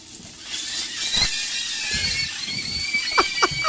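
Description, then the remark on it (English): Sausage frying in a pan, a steady hiss of sizzling fat with thin, high squealing whistles drifting in and out as water and fat escape, and a few sharp crackling pops, fairly loud, no voices. “Because it has to have a certain amount of water and fat that is escaping at a rate that it sounds like this.”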